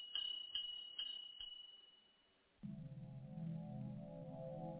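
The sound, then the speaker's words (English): A small bell on a shoemaker's shop door tinkles with four quick, bright rings that fade away, then a steady, humming musical tone takes over. “He laughed out loud, and just as he did, the bell on his shop door tinkled along with his laughter.”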